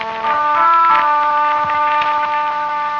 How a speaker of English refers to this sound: And over the picture, the sound of a horn echoing from the pass of Roncevant.